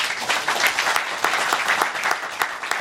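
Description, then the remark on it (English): An audience applauds steadily in a clapping poll on whether the office of the presidency is too powerful, many hands clapping at once in a dense, bright patter that holds at an even loudness for about three seconds with no voices on top. “held a clapping poll to see how people feel about the office and the president.”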